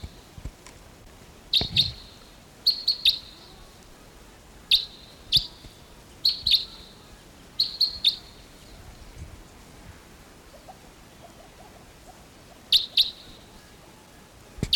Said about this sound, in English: early morning of August 16th, and there's a wild type 2 crossbill coming in. Wild? In flight? Bird flew right over.